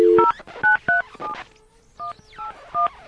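A run of about seven telephone keypad beeps as a phone number is dialed, each a short dual-pitched tone, pressed at an uneven pace with brief pauses between them, clear with no one speaking.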